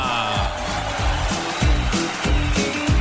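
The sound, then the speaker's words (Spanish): Steady, dense canned applause forms a broad hiss of clapping, layered over a rhythmic musical beat with regular low thumps roughly every half second. It stays fairly loud throughout, with no talking. “Estos aplausitos están la mar de bien, ¿eh? De gente muerta.”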